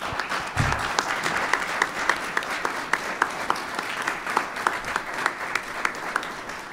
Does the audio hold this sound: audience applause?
yes